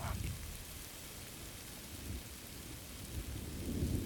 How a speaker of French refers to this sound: Il pleut, merde.